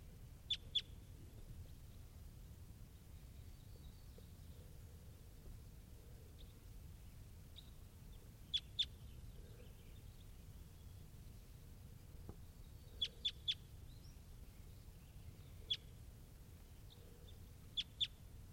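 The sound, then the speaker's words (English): Wild crossbills, including one at the top of a tree, give short, sharp, high-pitched call notes in quick pairs and triplets, sounding at scattered intervals over a steady low background rumble. “And there are some wild crossbills here, including this one up in the top of the tree.”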